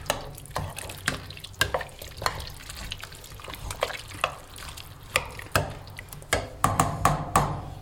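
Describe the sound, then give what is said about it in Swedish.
A spoon scrapes and clinks around a pot of simmering goulash in an uneven rhythm as spices ground by hand are stirred in, while a low bubbling simmer hisses underneath, moderately loud, with no talking. “Och då maler du det lite i handen också innan du häller i. Sätt runt och i det där.”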